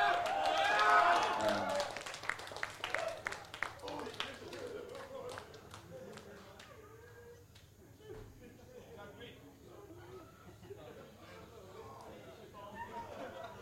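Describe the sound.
A burst of audience applause and clapping at a live band performance, given as extra applause for the guitarist and bass player, loud and dense at first, thins out within a few seconds. A voice then talks over a quiet, lingering background.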